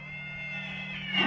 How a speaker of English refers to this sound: Elk, when you look at them with their giant fucking horns, listen to that. Is that the guy? That's an elk. That's an elk making noise. Yeah, that's a male. The males have horns.